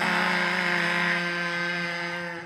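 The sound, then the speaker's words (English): Several voices join on a count of three in one sustained, nasal buzzing drone, mimicking a game-show buzzer to end the show; the pitch holds steady for about two seconds before the sound tapers off. “That was a pretty bad buzz.”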